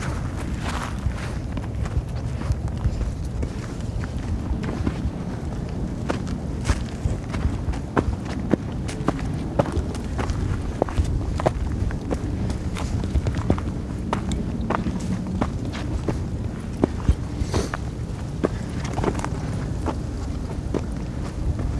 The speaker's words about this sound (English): That was Walking at the Griffey Dam in Winter.